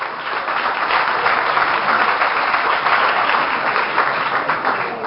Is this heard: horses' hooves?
no